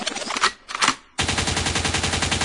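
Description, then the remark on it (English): A couple of sharp, noisy gunshot sound-effect bursts ring out loud in quick succession, then a dense, rhythmic music track abruptly kicks in and keeps going. “Lincoln means rewind, a gunshot means forward.”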